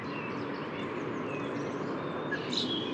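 A second common blackbird calls faintly, with a few thin notes and a brief sharper burst near the end, half-buried in steady outdoor background noise.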